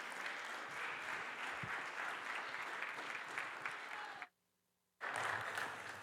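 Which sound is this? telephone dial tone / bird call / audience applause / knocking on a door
audience applause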